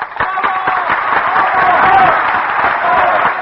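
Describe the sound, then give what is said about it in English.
A concert audience in Vienna applauds and shouts for an encore from the contralto Schumann-Heink: a dense, steady wash of clapping while many voices call out over it, loud and sustained from start to finish. “The audience has been shouting for an encore, and now the great contralto appears again on the stage.”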